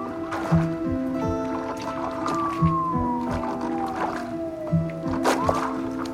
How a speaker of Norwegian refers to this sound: På vei over den iskalle elva i robåten har gjerningsmannen åpnet Kvikli-posen for å ta ut pengegevinsten.